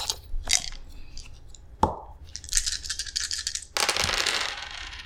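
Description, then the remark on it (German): Two dice, rolled during a game to get a question, rattle and clatter across a surface, a sharp knock near the middle, then a busy stretch of bright rolling clicks ending in a louder scattering tumble. No voices. “Und ich würfel und wir kriegen eine Frage”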